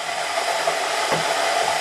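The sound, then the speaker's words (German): Sesame seeds toast and steam in a coated non-stick pan for a pesto, with a steady, even hiss of sizzling, broad and unbroken, with faint soft crackles scattered through it and no voices. “Aber es dampft schon. Der Sesam wird verprügelt.”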